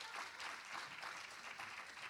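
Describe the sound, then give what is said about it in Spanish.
Steady audience applause for a woman being called forward, a dense wash of many hands clapping at an even level for about two seconds, with no voices standing out above it. “Ven para aquí, un aplauso, un fuerte aplauso para ella.”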